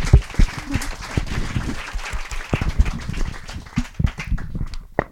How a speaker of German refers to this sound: Cool, vielen Dank. Und Applaus